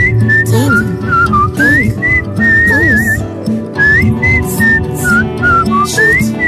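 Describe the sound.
A person whistles a lively melody in clear, sliding notes over a loud musical backing with bass and rhythm, the tune rising and falling in short phrases throughout.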